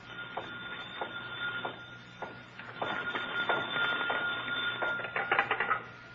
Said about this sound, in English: Suddenly, a phone rings on the desk of the night watchman, rings and shatters the silence of this modern tomb of ancient art.